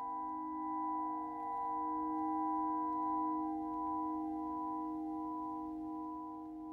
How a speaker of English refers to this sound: But with this type of prayer bowl, we can take a very particular kind of mallet and rub along the outside of that bowl, and there's a humming sound that's created that kind of comes out of nowhere. It's really an incredible sound.